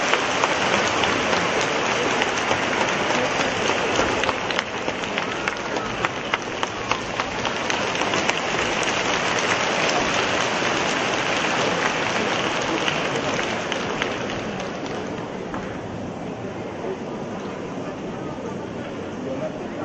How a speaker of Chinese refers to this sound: 现在让我们用最热烈的掌声恭请尊敬的卢台长为我们慈悲看图腾。